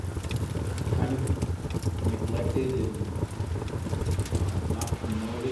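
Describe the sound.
Steady rain falls continuously in the lower part of a national park at the Uria Verde, where a cooking fire has been made and food served despite the rain; a dense hiss and patter with scattered louder drops, over a low rumbling background and faint, indistinct voices.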